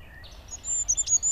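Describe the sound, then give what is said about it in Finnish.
A goldcrest, Europe's smallest bird, gives very high, thin, needle-like calls from a branch, a few brief piercing notes in quick succession near the end, heard over a soft outdoor background with no talking. “Nyt kuuluu hippien, oota.”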